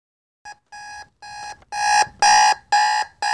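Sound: alarm clock ringing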